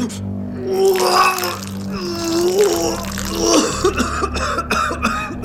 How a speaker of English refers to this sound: I vomited and slumped against the sink, my legs threatening to give way.